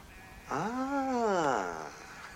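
A single drawn-out sheep bleat, rising and then falling in pitch over about a second and a half, clear against a quiet background.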